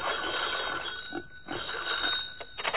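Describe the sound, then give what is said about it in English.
A telephone bell rings at night as a lieutenant phones the guardhouse, in bright, rattling bursts: a long ring, a short pause, another long ring, then quicker trailing jangles, steady in loudness with no voices. “He phoned the guardhouse.”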